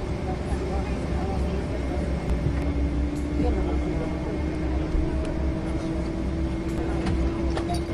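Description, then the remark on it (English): A steady, loud engine rumble fills the scene, with a rising whine that climbs gradually as an aircraft engine spools up, droning on without pause. “Why the hell did the engine just start up?”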